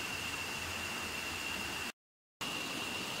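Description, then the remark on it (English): A steady, even rush of flowing water fills the background with a constant hiss and a thin high whine. It cuts out completely for about half a second, then resumes. No one speaks. “Okay, well, as usual, I will apologize for the sound of the water.”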